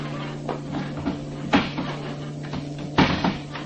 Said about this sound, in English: That table. Let's get it out here, right in the center of the floor.